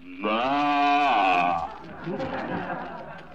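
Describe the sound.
A single drawn-out cow moo, loud, with a steady pitch that wavers slightly before trailing off into a murmur of background noise.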